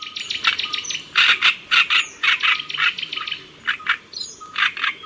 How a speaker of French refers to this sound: Et à la une de la science aujourd'hui, sur les traces d'un oiseau chanteur migrateur, donc la rousserolle turdoïde.